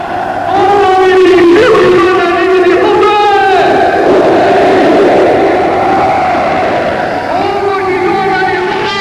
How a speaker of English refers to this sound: Or the sounds from the enemy's camp of Radio Peking and the ranting shouts of a million Chinese demonstrating against you.